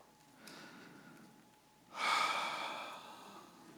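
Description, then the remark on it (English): A soft, brief intake of breath is followed by a louder, drawn-out exhale, a single deep breath in and out with no talking. “A deep stop and take a deep breath.”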